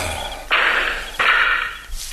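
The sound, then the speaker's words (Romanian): Three sharp, loud gunshots fired from two sides, spaced unevenly, each a sudden crack followed by a brief hissing decay, with the last cut off at the end and no voices. “S-a tras din două părți!”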